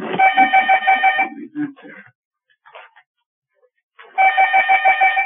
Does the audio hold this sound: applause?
no